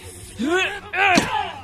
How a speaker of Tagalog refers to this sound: Sige po, tatadyakan ko po ang pinto para mabuksan natin at makapasok tayo. Tutulungan ko sa'yo sa pagsipa sa pinto para mabuksan natin.